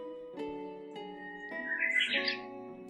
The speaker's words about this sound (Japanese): 目を閉じて、鳥たちのさえずりがあなたを包み込み、穏やかな安らぎをもたらします。